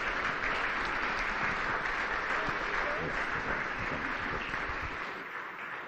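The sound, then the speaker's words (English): A crowd claps for two guest speakers, thanking them, in a dense, continuous wash of applause that holds its level for about five seconds, then begins to thin and fade out at the end. “Folks, can we give them a round of applause, actually?”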